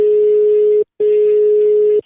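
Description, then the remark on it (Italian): A telephone ringback tone on an outgoing call: a steady, loud electronic hum sounding in two long pulses with a brief gap between them, heard alone over the phone line. “Vai, telefono, vai, ciccio.”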